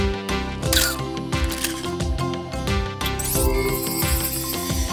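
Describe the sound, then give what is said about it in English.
A camera shutter snaps a couple of times as a selfie is taken, over a bouncy, upbeat music track with steady bass beats, the clicks sharp but partly buried in the busy music. “Let's take a selfie.”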